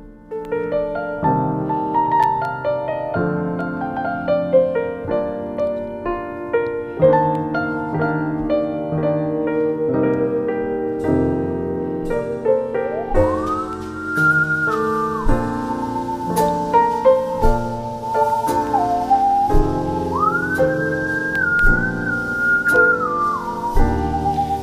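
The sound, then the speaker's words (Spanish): A musical saw, a wood-cutting saw played as an instrument, sings a slow, eerie melody with long swooping glides between notes, carried over a steady instrumental accompaniment, clear and up front the whole time. “Bueno, eso que suena como melodía, ¿sí?, no es una soprano empapada en el licor. Ni nadie silbando. No es un silbido, es una sierra para cortar madera.”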